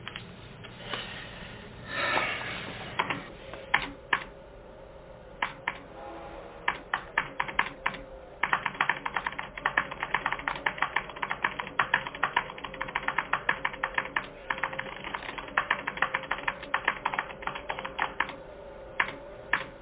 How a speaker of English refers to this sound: Hello, computer. Just use the keyboard. The keyboard. How quaint.